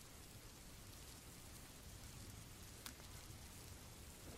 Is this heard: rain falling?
yes